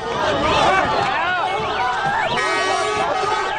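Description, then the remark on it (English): A dense crowd of many voices shouts and yells over one another at a steady, loud level, with raised cries rising and falling across the whole few seconds, chaotic, as men attack a car allegedly driven by a Christian motorist in Cairo, Egypt. “In Cairo, a crowd shouted as men attacked a car allegedly driven by a Christian motorist.”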